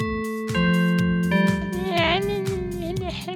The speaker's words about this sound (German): Wow, das sind auch grosse Glocken!